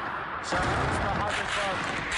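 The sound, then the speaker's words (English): A sharp gunshot cracks out in Syria over rough, noisy outdoor ambience, followed by a sustained wash of gunfire and commotion, with indistinct voices shouting underneath. “The sound of gunfire today in Syria on what may be one of the bloodiest weekends since the uprising began 7 months ago.”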